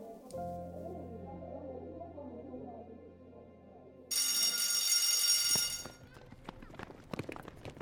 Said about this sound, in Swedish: Klockan ringde för rast.